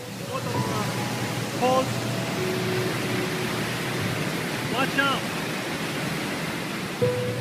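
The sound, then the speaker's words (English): Steady, loud roar of rushing water fills the whole recording without a break on a hike through water over rocks towards a waterfall at Wadi Mujib, while a few brief voices call out over it now and then. “It's like a hike through through water, like over kind of rocks, leading towards this really gorgeous waterfall.”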